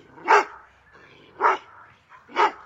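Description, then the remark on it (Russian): A dog named Archie barks three times over a phone at a steady, unhurried pace, each bark short and sharp with brief quiet gaps between. No one speaks, and the barking stands alone. “Голос умолк, но тут же раздался собачий лай.”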